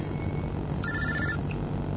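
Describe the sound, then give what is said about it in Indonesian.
A faint electronic mobile phone ringtone chirps briefly from a bedroom on the second floor, a short bright tone pattern over steady low background rumble, with no one talking. “Aku terus mencari suara handphone itu.”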